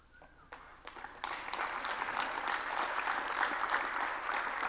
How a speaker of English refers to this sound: What's cool about this is not only that it works, and thank you for clapping, but this image here is actually running using Linux.